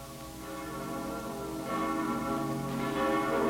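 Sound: church bells ringing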